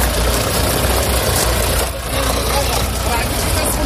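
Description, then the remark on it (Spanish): The engine of a Moroccan army truck idles with a loud, steady rumble and broad hiss for the whole stretch, briefly dipping about halfway through before resuming unchanged, as soldiers use it after the earthquake in Morocco. “Por eso se sube a un camión que pertenece al ejército marroquí.”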